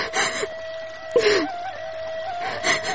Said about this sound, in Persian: گریه نکو، کسی خود دیدید خود گفت که چرا گریه میکنه.